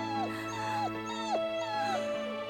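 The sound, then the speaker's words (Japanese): A dog whimpers, giving about four high, thin whines that waver and slide downward in pitch, one after another over a steady low background hum. “犬さんだよ、お母さん。”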